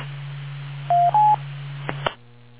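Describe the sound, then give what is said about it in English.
A telephone rings with two short electronic beeps, the second slightly higher in pitch, over a steady low hum, followed by a couple of sharp clicks before the hum drops away. “And my phone is ringing.”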